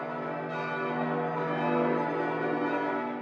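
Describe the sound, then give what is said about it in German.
Church bells ring in a full, continuous peal, their overlapping tones sustained and steady with no pauses and no voices. “Diese bringen sie dann am Ostersonntag mit nach Frankreich, wo sie die süße Fracht mit viel Glockengeläut auf dem Weg verlieren.”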